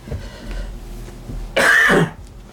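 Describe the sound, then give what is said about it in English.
Low, muffled throat-clearing rumbles from a person fighting a cold give way to one sharp, loud cough, a harsh half-second burst, then quiet. “Like I said the other day, I've been fighting a cold. Mm-hmm. I've not coughed all day.”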